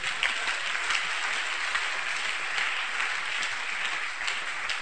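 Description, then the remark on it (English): Steady applause from a crowd, many hands clapping in a dense, continuous patter at an even level throughout, with no voices standing out. “Are you clapping?”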